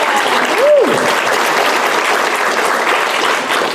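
Steady, loud applause from an audience at the start of a 'Judge Dredd: Supercop or Satire' panel fills the whole stretch, a dense wash of clapping that holds level throughout, with a brief high tonal squeal rising and falling near the start.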